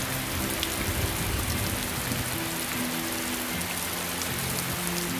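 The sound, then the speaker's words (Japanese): A steady, heavy torrential downpour hisses evenly across the whole clip after black clouds cover the sky, a dense wash of rain drumming on surfaces with a faint low rumble underneath and no voices. “新郎新婦の神々への宣誓が済んだ頃、黒雲が空を覆い、ぽつりぽつり雨が降り出し、やがて車軸を流すような大雨となった。”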